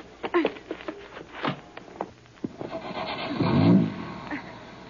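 A few scattered knocks and clunks, then a car engine turns over and catches about three seconds in, its low rumble swelling up before settling.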